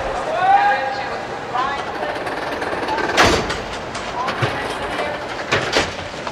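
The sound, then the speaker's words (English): A passenger train, the Empire State Express (train number 73), rolls along the rails, a steady rumbling clatter with sharp bursts of noise, while muffled voices and a wavering tone drift through the first few seconds. “Could you please answer our train number 73? The Empire State Express.”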